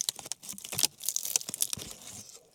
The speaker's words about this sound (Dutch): Sorry, ik ga af en toe even een hap nemen van mijn lumpia. Rammel, rammel, rammel.